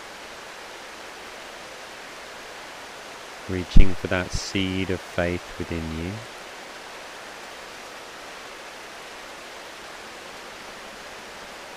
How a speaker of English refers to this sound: Enjoy the rain.